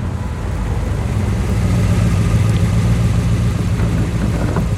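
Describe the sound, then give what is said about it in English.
A 1967 Corvette L88 engine runs with a deep, steady idle rumble, a throaty, even growl that holds constant throughout with no one speaking. “Is it a Corvette? 67, L88. Listen to her sing.”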